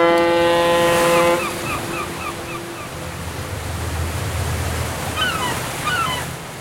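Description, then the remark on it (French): A cruise ship's foghorn, from the 150-metre West German-flagged liner MS Berlin entering Havana harbor, Cuba, on an evening, blasts loudly for about a second and a half, then its deep tone fades away over harbor water and wind, with gull cries toward the end. “Deux mois plus tard, dans la soirée du vendredi 27 février, la corne de brume d'un navire de croisière retentit dans le port de La Havane.”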